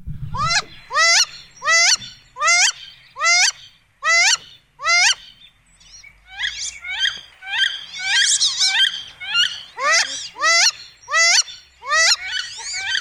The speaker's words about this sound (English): Okay, listen to this female wood duck. I love this sound and hear them just about every day now when I'm outside.